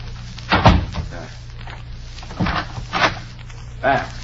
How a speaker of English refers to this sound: I will close the door.